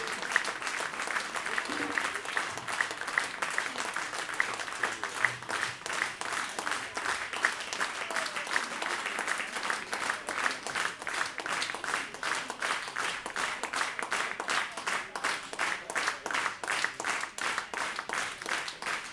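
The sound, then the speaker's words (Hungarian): Sustained audience applause at a show: many hands clapping in a dense, steady wash that holds at an even, fairly loud level for about twenty seconds without fading. “Kedves közönségünk, megköszönjük megtisztelő tapsaikat”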